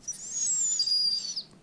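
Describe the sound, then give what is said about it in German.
A person imitates a bird's aerial-predator alarm call: a single thin, very high, drawn-out whistle lasting over a second, sliding slightly downward, fairly clear, with no talking. “Oder man macht den Luftfeinalarmruf.”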